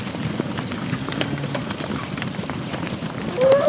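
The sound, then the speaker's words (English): A dense, steady patter of many hooves shuffling and thudding on the ground as a herd of a couple thousand cattle moves through a big green metal gate from one paddock to another on a farm, with a brief creak or call rising near the end. “Just watching a couple thousand head of cattle move through a big green metal gate.”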